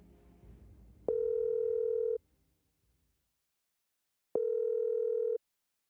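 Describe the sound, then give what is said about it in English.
A telephone line ringing tone sounds twice: two loud, steady electronic beeps about a second each, separated by a longer silence, after a brief low rumble of background noise at the start. “Time for me to get my phone book out again and ring up the two people best placed to talk everything medieval French royalty.”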